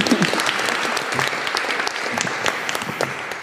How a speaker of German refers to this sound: Nochmal ganz, ganz herzlichen Glückwunsch an Sie drei. Genau, ein Applaus.